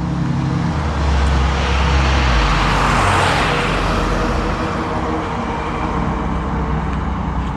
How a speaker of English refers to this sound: School bus.